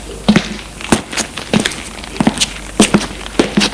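Footsteps going carefully down narrow, damp stone stairs under a vaulted ceiling: a steady series of about a dozen sharp, gritty steps, some landing in quick pairs, each with a soft low thud, and no voices.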